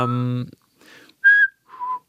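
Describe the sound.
A brief voiced sound gives way to a person whistling a few short, clear notes of a Beethoven melody, stepping downward in a quick little melodic phrase.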